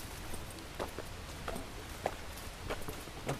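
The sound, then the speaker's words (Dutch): Footsteps crunch along outdoors in a park-like area as people walk around a dead tree at an unhurried pace, each step a soft, brief impact repeating roughly every half second, with no one talking. “We lopen er nu omheen.”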